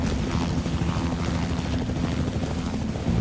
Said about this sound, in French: Venir en renfort à l'équipe de plongée de la police, un hélicoptère de la garde côtière survole la rivière.